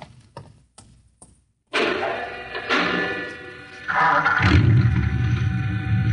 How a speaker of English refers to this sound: You start the mechanism to open the garage door, then jump onto the truck.